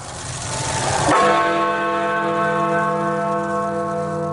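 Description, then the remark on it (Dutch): A single deep, loud stroke of the Big Ben bell rings out after a second of crowd noise, marking Brexit on 31 January 2020, its rich tone sustaining and humming slowly as it decays, like a large clock tower bell striking. “Dat mogen we een Brexit-gong noemen.”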